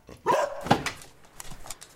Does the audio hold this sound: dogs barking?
yes